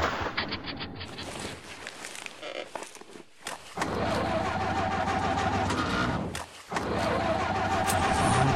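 A car engine, limited and running on a car driving bumpily, runs roughly and sputters, cutting out briefly twice before catching again with a loud, uneven rumble. No voices are heard.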